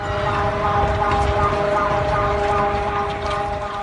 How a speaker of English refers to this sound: But first, just before the powerful quake struck Mexico this week, alarm sirens rang out.